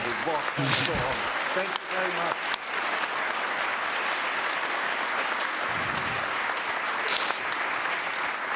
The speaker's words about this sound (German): Deswegen jetzt eine kurze Runde Applaus für uns.